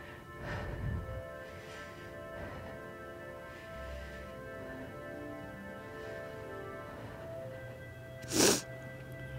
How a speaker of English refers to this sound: There's another lady sneezing in the background. There's something in the grass right now or something.